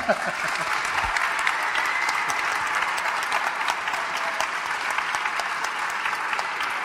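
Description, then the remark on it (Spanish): Sustained audience applause for the organizers of Málaga Jam, a dense steady wash of many hands clapping at an even loudness for several seconds, with no voices standing out. “que es el momento de pedir un aplauso.”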